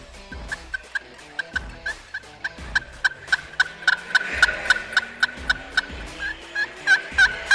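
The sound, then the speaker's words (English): A turkey call works out a long, steady string of excited hen-turkey yelps, sharp, repeating rhythmically and building slightly in loudness, with no talking over it. “So you said we're going to come back with our favorite turkey call?”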